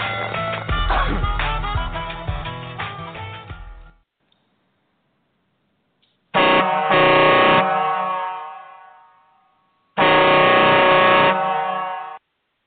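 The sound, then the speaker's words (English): Loud, blaring truck air horn blasts: a long sustained honk of about four seconds, then a pause, followed by two more shorter blasts, harsh with a rich harmonic tone. “Tyler, you probably thought I forgot about that air horn, didn't you?”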